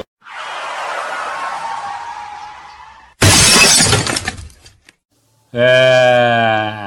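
A long hissing rush, as a vehicle skids in a puddle of water, gives way to a sudden loud crash against a car, with crunching metal and shattering glass that rattles and trails off, followed by a sustained, wavering high-pitched tone.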